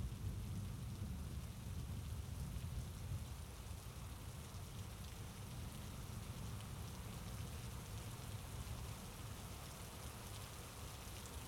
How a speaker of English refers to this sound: You hear that? I know, it's loud. I used to hate rain at night. But now, it's kind of nice. Like the world's tucking us in, making everything else fade away.